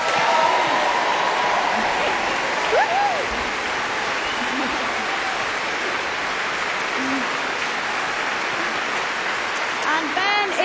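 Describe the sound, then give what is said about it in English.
A sustained burst of audience applause at a concert for the resident conductor, Ben Foster, on stage: dense and steady clapping at high volume throughout, with faint cheers and whistles rising above it. “And I think he deserves a round of applause for that.”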